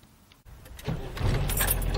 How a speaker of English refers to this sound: Wow, what an engine. Really? Listen to this, man.